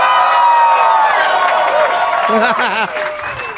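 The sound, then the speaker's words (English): A packed comedy club audience in Minneapolis, Minnesota, cheers and claps loudly and steadily on a Saturday afternoon, with whoops and shouts rising over the roar and a few voices calling out near the end. “This is a great crowd packed in at 4:20 in the afternoon.”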